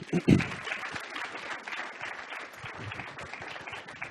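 An audience breaks into applause, a dense, steady wash of many hands clapping that holds for several seconds after a couple of louder opening claps.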